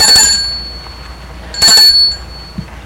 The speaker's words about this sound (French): L'homme va arrêter sa voiture devant une maison qui se trouve au boulevard des Belges. Il sort de voiture. Et sonne au portail.